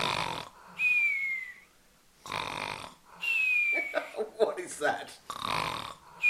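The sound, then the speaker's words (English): A dog snores in its sleep, with several rasping inhales that carry a thin, high whistle, broken by short quiet pauses and a few snuffly, sputtering breaths. “Nah, just look, if you listen carefully, dog.”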